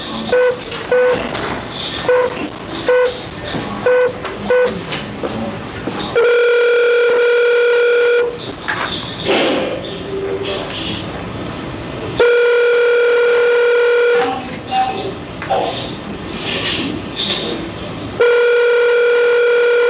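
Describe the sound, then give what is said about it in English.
A rapid run of short dialing beeps, then an outgoing phone call placed by the Arizona Board of Executive Clemency, its ringback tone sounding three times, each long buzzy ring separated by a pause, heard over the line with no talking. “We're waiting for some others to come into the room, and I need to make one phone call on your behalf, sir.”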